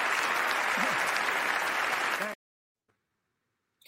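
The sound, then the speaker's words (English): Loud, dense applause from many hands in an audience, a steady wash of clapping that cuts off abruptly after a couple of seconds, leaving near silence. “Dude, we've got to look at this second guy clapping.”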